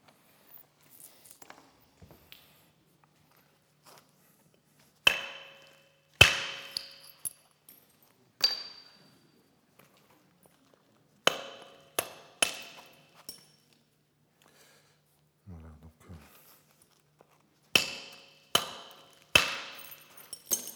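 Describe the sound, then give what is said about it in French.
Stone knapping with a soft hammer, producing very thin, wide flakes with a flared butt. About a dozen sharp, ringing knocks come in irregular clusters separated by pauses, with faint light tapping and scraping at the start. No one speaks. “Et ça, ce sont des éclats caractéristiques du percuteur tendre, très mince avec un talon déversé, assez large et très fin, et déversé sur la face inférieure.”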